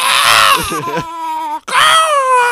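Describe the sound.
A person lets out two loud, high-pitched screeching cries separated by a brief gap, imitating a pterodactyl's shriek, harsh and strained with a wavering pitch.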